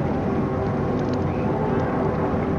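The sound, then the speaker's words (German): Small motorboats on the Rhine, lined up from the right bank behind a convoy of boats, drone steadily on the water, their engines blending into a continuous, fairly loud rumble with no pauses or breaks. “Neben den Booten der NATO-Flottille haben sich jetzt auch etliche kleine Motorboote auf dem rechten Rheinufer, vom rechten Rheinufer her, hinter den Konvoi geordnet.”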